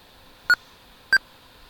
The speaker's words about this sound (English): So we can hear NVDA making the beep noise. It's doing good. It's accessible enough for it to know that it's copying one of the tracks on the CD.